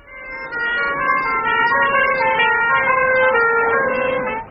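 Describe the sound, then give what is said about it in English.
Wailing police sirens blare steadily, several overlapping tones gliding slightly in pitch as police cars speed past, racing to a parking lot two blocks from a hospital, with a low road rumble underneath and no voices. “Police cars raced to the scene.”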